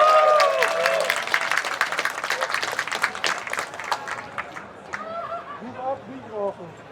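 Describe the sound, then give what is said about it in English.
An audience breaks into loud, dense clapping for LibreOffice, with a few whoops, the applause thinning out after about four seconds as scattered voices call out and chatter over the last claps. “Give it up for LibreOffice.”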